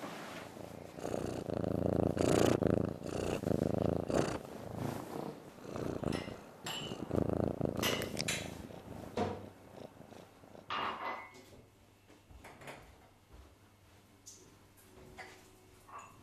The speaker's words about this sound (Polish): Trzymaj, może go rozmruczysz. Chodź, będę cię mruczać.